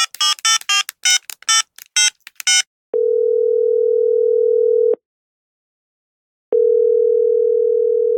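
A quick series of electronic keypad beeps as a phone number is dialed to call a publisher, followed by two long, steady telephone ringing tones separated by a silent pause. No voices.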